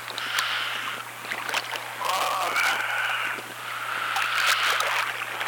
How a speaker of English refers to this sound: Fish jumping out of the water within 20 feet of me, 10 feet of me.